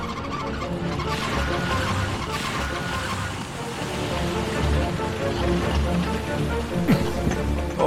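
A smoking car rumbles as it pulls over to the roadside, with a steady hiss of tyres on a wet road that grows slightly louder toward the end.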